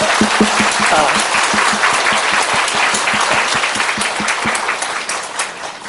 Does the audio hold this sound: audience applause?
yes